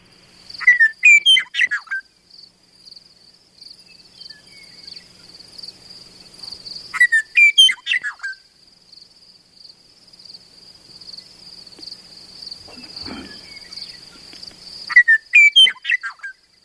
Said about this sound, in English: So, well, we did want to let people listen to one other unusual bird that is declining in Wisconsin, the Western Meadowlark. And so let's take a quick listen to that.